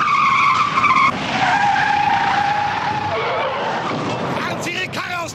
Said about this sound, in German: Und auch das Spannende, sicher Interessante daran, was aber nicht so spannend zu bearbeiten ist, wie die Verfolgungsjagd mit den quietschenden Reifen bei den diversen Serien.